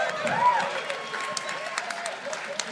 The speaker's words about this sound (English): You shouldn't applaud that.